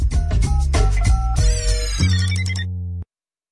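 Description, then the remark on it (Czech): A telephone rings in a radio studio in Plzeň during a live broadcast, with a bright, melodic tune of quick tonal notes, loud and close, with no one talking, before it cuts off abruptly after about three seconds. “No vida, a hned nám tu zvoní telefon, já to ještě musím takhle pustit, ano, a už jsme v obraze.”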